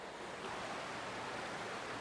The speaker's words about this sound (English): I hope that you can hear this creek flowing. It's been raining, as I've said in other messages, and this water is flowing. I hope you can hear it.